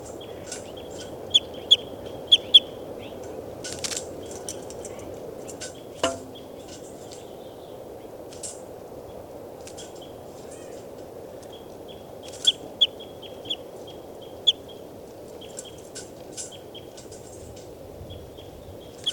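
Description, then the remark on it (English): Bird calls recorded from bird number 392: short, high-pitched chirps recur irregularly, with a few sharper, louder notes, all over a steady low rumble of background noise. No one speaks. “Start recording. This is bird 392.”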